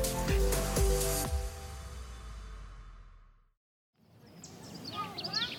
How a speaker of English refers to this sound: Listen to those birds just chatting it up. The Huntington Library in San Marino, California is like heaven by any metric.